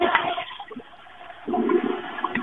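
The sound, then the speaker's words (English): A toilet flushes with a rushing, gurgling surge of water that dips briefly, then swells again as the bowl refills, sounding somewhat muffled, as if heard over a phone line. “Is that a toilet flush?”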